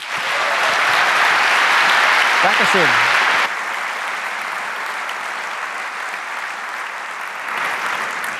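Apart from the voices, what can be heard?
audience applause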